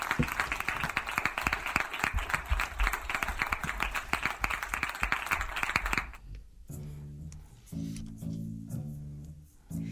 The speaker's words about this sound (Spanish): Ahora sí, aplausos. Ahora gracias, sí. Gracias.